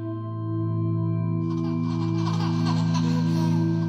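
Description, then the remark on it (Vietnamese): A child's laughter, treated with heavy echo, swells up over a steady low droning hum and keeps rippling through the room to the end, sounding eerie and reverberant. “Vui nghe tiếng con nít cười vang khắp phòng”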